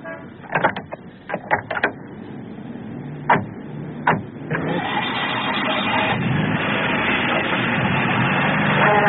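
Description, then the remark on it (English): A few sharp clicks and knocks, then a car engine turns over and settles into a steady, rising rumble as the vehicle pulls away, growing gradually louder to the end. “It's in the car. You can drive away, huh?”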